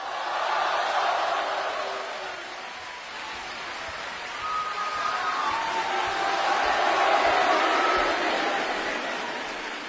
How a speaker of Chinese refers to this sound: 谢谢，谢谢大家给我一个人的掌声。 两个人上台表演，给您一个人的掌声。